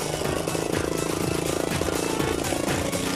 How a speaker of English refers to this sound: Even though the engine's soaked and is misfiring badly, he manages to carve a path through the crud.